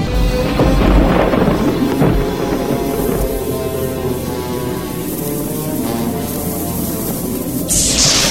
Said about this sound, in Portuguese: Está vindo uma tempestade.